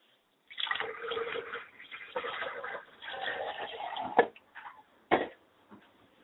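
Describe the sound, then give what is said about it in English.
Liquid pours and splashes steadily for a few seconds as a ritual libation in honor of Yamanja, the Lady of the River, then trickles off, with two sharp knocks or drips near the end. No one speaks. “Yamanja, we will not be given a description of today, but we pour libation in honor of Yamanja, the Lady of the River.”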